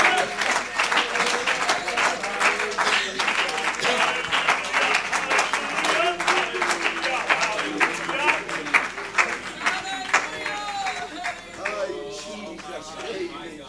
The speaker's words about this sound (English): Oh, clap your hands and magnify the Lord.